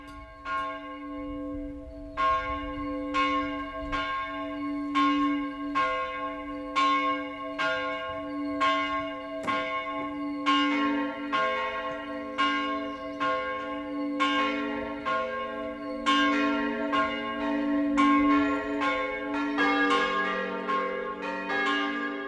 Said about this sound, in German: Das Mittagsläuten kommt heute von der katholischen Pfarrkirche St. Johannes Evangelist in Astheim in Unterfranken.